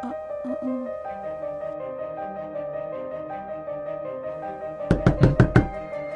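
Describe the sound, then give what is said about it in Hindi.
A quick series of five sharp, loud knocks on a door, breaking in near the end over a low sustained musical drone. “अजीब बात कि इस वक्त कौन दरवाजे पर हो सकता है?”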